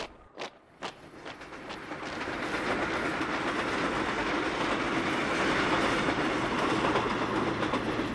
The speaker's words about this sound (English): The train ride home's the best, passing city by city, towns you don't know, places you don't remember.